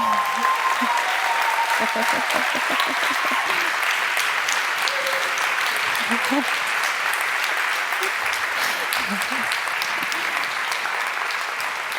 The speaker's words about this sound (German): Ja, den Applaus möchte ich gern teilen mit all unseren Engeln und unserem Konferenzbüro